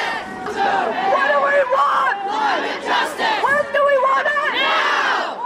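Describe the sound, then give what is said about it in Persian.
A crowd of young climate-justice protesters in the street shouts and chants together in loud, rising and falling bursts, many voices overlapping with a raw, forceful tone and only brief dips between shouts. “نسلی که یکی از چهره های شاخص آن گرتا تونبرگ است، اما حالا در نقاط مختلف دنیا به خیابان می آید و درخواست خود برای عدالت اقلیمی را فریاد می زند.”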